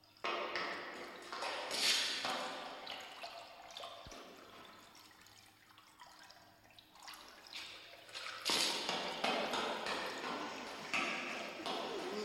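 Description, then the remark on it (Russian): Water pours and splashes in a steady, hissing stream, swelling louder near the start, easing off in the middle, then surging again for the last few seconds. “Это вы здесь воду льете?”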